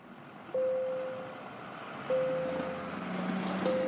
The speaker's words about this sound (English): That's the morning bell at George T. Daniel Elementary School in Kent. Most students are in their seats already, starting their lessons.